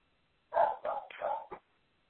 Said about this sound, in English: Do you hear a dog barking? I do. Do you hear a dog barking? Yeah, I do. Is it a ghost dog?